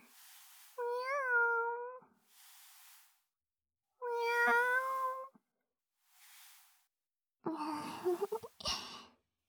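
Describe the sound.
A human voice imitates a cat, giving three drawn-out, sing-song meows, with soft breathy sighs in between; the last meow is rougher and more broken.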